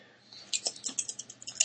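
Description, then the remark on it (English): Two European coins clatter as they are tossed and land, one head and one tail, producing a quick series of small, bright metallic clicks and clinks with no talking. “2 coins again. Okay, the side with the big one on it is a head, I've decided. And head and a tail.”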